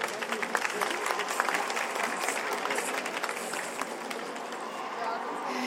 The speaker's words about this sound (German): Es tut mir leid an die anderen, aber ich habe mich für den Schmetterling auf der wunderschönen Erdbeerblumenwiese entschieden. Ein Applaus bitte!